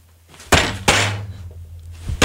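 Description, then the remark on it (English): Two heavy hand slams on a desk land about a third of a second apart, each a sharp, loud thud followed by a booming echo that lingers, with a softer knock near the end. “The echo you hear is him slamming the desk.”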